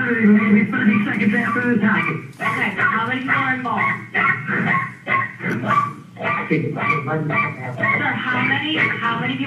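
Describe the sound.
A dog barks and yelps repeatedly in agitated bursts during an emergency call after shots were fired, mixed in with a person talking over it, the sound slightly muffled and compressed over a phone line.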